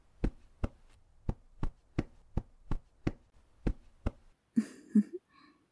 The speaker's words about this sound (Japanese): また肩までゆっくりと戻っていきます。トントン、トントン、トントン。